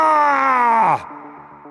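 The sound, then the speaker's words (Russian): A loud, drawn-out war cry 'Barra!' shouted by a running Roman century of soldiers, imitating an enraged elephant's trumpet, sliding downward in pitch for about a second before breaking off into a quieter, ragged tail. “Крик разъяренного слона «Бара!» в нашем исполнении больше похож на вопль перепуганного слоненка.”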